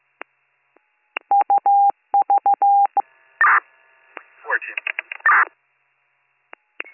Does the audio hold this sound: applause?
no